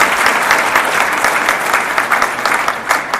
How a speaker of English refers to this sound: So I want to give you guys a round of applause for all being here first. So thank you.